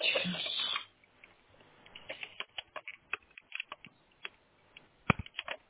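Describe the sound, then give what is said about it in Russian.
A network (internet) cable plug being pushed into a router's port: a brief burst of handling noise, then a scattered series of small, sharp plastic clicks and taps. “Так, защелкнулось.”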